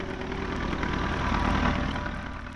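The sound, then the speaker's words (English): A tractor engine runs steadily at a low idle, its rapid rhythmic chugging continuous for the whole stretch, with no voices over it, as a flower grower works in his field near Detroit in the fall of 1945. “A flower grower near Detroit had a radio installed on his tractor, and as he was working in the field, he was listening to the college station.”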